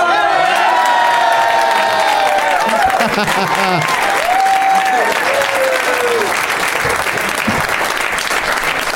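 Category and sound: crowd, audience applause and cheering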